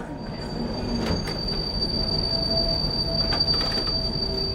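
A metro train rumbles along steadily, its wheels letting out a sustained high-pitched squeal over the continuous low roar of the carriage, with a few brief rattling transients. No one speaks.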